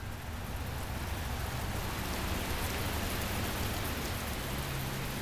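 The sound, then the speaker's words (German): Steady, dense heavy rainfall hissing evenly throughout, a thick wash of pattering, splashing large drops with no pauses, constant in loudness. No voices are heard. “Es handelte sich um jene Sorte von Regen, der viel zu feucht ist, um einen Regen, der in großen Tropfen herabfällt und platscht, um einen Regen, der einem senkrechten Meer mit Schlitzen darin gleicht.”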